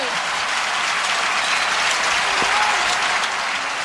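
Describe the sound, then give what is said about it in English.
A tennis crowd in Paris applauds and cheers loudly as Steffi Graf wins the match, a dense, steady wash of clapping with a brief whistle rising through it, sustained at full volume for the whole stretch. “It worked the first time, faltered, serve the second serve conventionally, overarm, then loses the match, and the crowd are just absolutely hysterical.”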